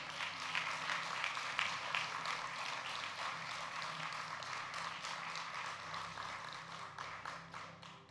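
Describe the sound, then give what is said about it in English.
A church crowd applauds steadily for about eight seconds for those who raised their hands as they come forward to the front for prayer: a dense, even wash of many overlapping hand claps with a few sharper individual claps standing out, fading slightly at the end. No one speaks. “So guys, let's give a round of applause for everyone that raised their hand as they come forward.”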